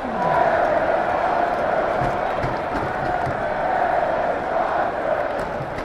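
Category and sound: crowd, stadium crowd chanting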